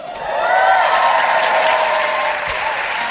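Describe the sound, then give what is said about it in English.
A live audience at the 92nd Street Y in New York City breaks into sustained applause, a dense wash of clapping that holds steady and loud for a few seconds before easing slightly, with faint cheering mixed in. “You got to knock off the easy applause lines early.”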